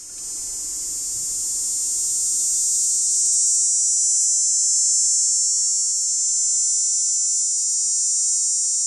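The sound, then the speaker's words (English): Dog day cicadas (Tobison canicularis) sing a loud, steady, high-pitched buzzing drone, one song each from two males, that swells up in the first seconds and holds nearly unbroken for about nine seconds, with no voices. “Dog day cicada, Tobison canicularis. One song each of two males.”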